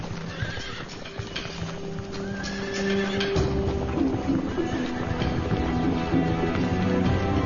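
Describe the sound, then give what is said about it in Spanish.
Konik horses, a primitive Polish pony breed, whinny and neigh repeatedly while hooves clop steadily over the ground, the sounds overlapping and growing a little louder partway through. “Son sobre todo los robustos König los que mantienen a raya los juncos y desentierran sus raíces en invierno, lo que las ovejas pastando no serían capaces de hacer.”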